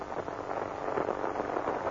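signal or alarm, radio static

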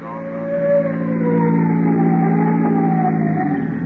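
vehicle, police car siren

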